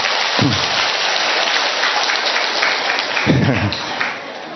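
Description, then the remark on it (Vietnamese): Steady, dense applause from a crowd fills the whole stretch, loud and continuous, with a couple of brief voices rising through it near the start and toward the end. “Một tràng pháo tay thưa anh chị em.”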